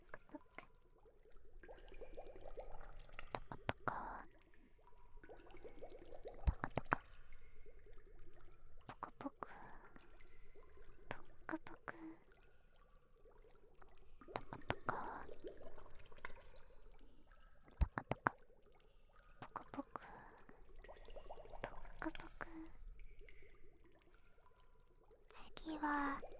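Soft, watery sloshing like gentle waves, rising and falling in irregular swells every few seconds, with drippy, squishy liquid textures and faint whispering woven through.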